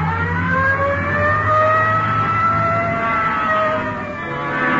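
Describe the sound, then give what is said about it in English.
A police car's siren wails loud in a steady rising-and-falling tone, layered over the low rumble of its engine as it speeds along with lights on, responding Code 3 to a shooting call at the corner of Hill and Geneva Alley. “Code 3. Hit the light. Yeah, come on. Let's roll.”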